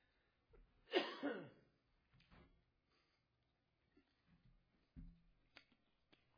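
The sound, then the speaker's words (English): A speaker giving a talk on the Passover gives a single loud, deliberate cough near the start, followed by a few quieter throaty sounds and small clicks spread across an otherwise quiet stretch. “I don't have a cough, but I know everybody else does. So I'm just doing that to make you feel right at home.”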